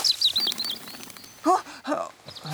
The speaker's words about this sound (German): Was ist denn mit dem Vogel los? Ah, ein Rotkehlchen.